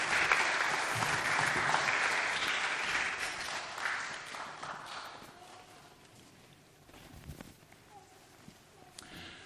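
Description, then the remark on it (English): A crowd claps for the helpers in a dense, steady burst of applause that gradually thins and fades over several seconds, leaving scattered claps and a few soft voices at the end. “Let's have another round of applause for our helpers.”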